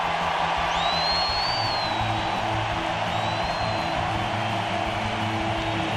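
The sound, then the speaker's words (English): A stadium crowd roars in a thunderous ovation at a Cubs baseball game as pitcher Kyle Hendricks leaves the game. It is a dense, steady wall of cheering with scattered whistles and whoops rising above it, loud throughout the six seconds. “You are going to hear a thunderous ovation when Kyle Hendricks leaves this ball game.”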